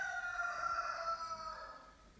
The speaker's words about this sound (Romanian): Oh, cântat cocoș, ok.